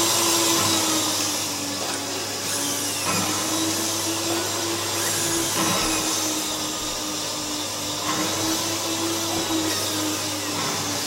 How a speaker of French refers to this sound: Des vieux aspirateurs, mixeurs, machines à laver, couteaux électriques, rasoirs, ventilateurs et autres appareils électroménagers complètement vintage